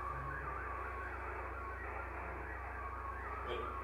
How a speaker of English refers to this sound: So you can hear all the static crashes. You're seeing those in the picture. But it, you know, you still get the information from the picture despite the noise.